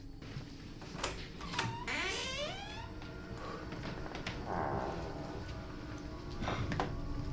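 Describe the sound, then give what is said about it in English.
A door off a landing is opened by its doorknob into a dingy room, creaking with a long, wavering squeal of its hinges, framed by sharp clicks and knocks from the latch and handle, in quiet surroundings. “With his hand on the doorknob, Carl nods at Matt and opens the door.”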